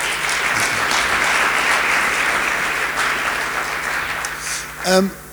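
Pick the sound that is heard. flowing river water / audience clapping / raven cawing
audience clapping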